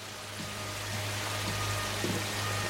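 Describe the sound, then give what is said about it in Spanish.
Steady heavy rain hisses without a break at a river pier in a scene from the film Rambo, a dense wash of noise, joined by a low constant hum and a few faint dull knocks, with no voices. “Los dos se miran fijamente bajo la intensa lluvia.”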